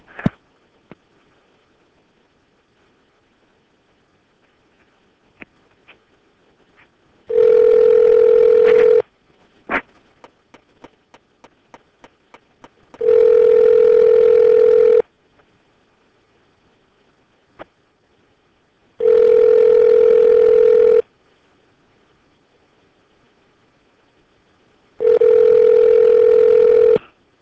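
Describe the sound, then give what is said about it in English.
An outgoing phone call rings back: four steady, evenly spaced ring tones, each lasting about two seconds with pauses of roughly four seconds between, loud and clear, with faint clicks before the first ring. “Well, let's see if we can connect with somebody tonight. Hang on 1 second.”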